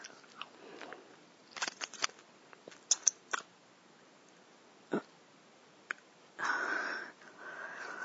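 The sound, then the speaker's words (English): Scissors snip through fabric, cutting off a pair of panties: scattered sharp clicks and snips, then a longer rasping cut near the end. No one speaks. “You didn't have to cut them off.”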